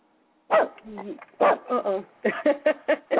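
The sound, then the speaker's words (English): A female dog barks repeatedly at someone at the front door, a quick series of sharp, loud barks with a few softer yips and whines mixed in, no voices heard. “My dog decides she wants to talk.”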